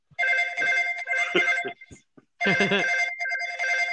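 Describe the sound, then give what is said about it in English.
A telephone rings in two long, loud bursts of bright, warbling electronic tone separated by a short pause, with a few soft low thumps underneath and no one talking, as a call is placed to an executive. “We have real phones.”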